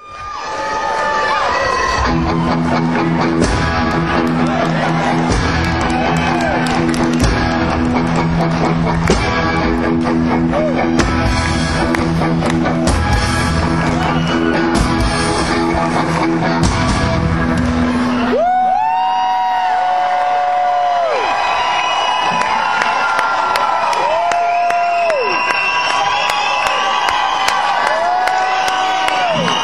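A loud live concert crowd roars and cheers as the band comes back on stage and slowly goes into steady repeated guitar riffs, hammering on the strings, with sustained tones, then the music drops into a thinner section of rising and held notes beneath continuing crowd noise.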